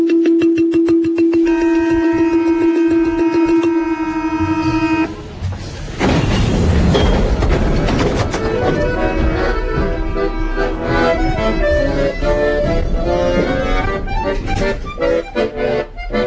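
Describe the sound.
A steady horn-like tone holds for about five seconds, then lively balafon music bursts in, its rapid wooden struck notes ringing out loud over a busy backdrop, playing the note of the metro doors closing.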